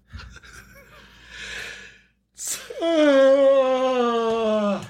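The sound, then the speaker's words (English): A person yawns, starting with a breathy inhale, then a sudden loud, drawn-out voiced groan that slides slowly downward in pitch before trailing off. “I wasn't turned into a mummy. I just was a yawning.”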